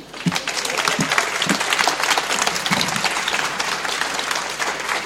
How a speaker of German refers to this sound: Und ja, herzlichen Dank für diese Runde. Ihr Applaus.